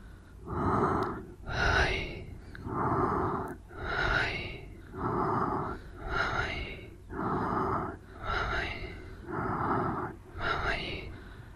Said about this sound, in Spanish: O sea, cada vez que inspiremos, repetiremos mentalmente Om. Y cada vez que expiremos, repetiremos mentalmente Babaji. Para que la comprensión sea más clara, voy a vocalizar el mantra junto con la respiración.